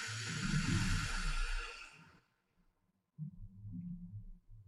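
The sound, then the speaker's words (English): A long, slow exhale after a deep breath, breathy and rushing into the mic, tapers off over about two seconds into brief silence, followed by a low, soft rumbling hum. “Breathe out.”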